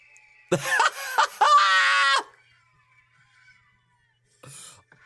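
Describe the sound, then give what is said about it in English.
A performer imitates a giant condor's screech to entertain a crowd of people, with loud, harsh, raspy shrieks lasting under two seconds. After a quiet gap, a short breathy burst follows. “I think she's entertaining a crowd of people by acting like a giant condor while barking bird sounds.”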